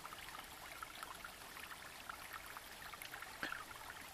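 A steady, soft stream of water pours into a bottle, a continuous gentle splashing that lasts several seconds with a brief gurgle near the end. Quiet, with no voices.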